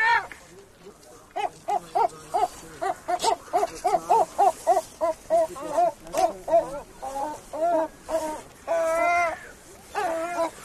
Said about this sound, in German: Meine Freunde, meine persönlichen, die Travemünder Möwen. Ja, die sitzen hier gerade zu dritt auf einem Stein am Ufer der Trave.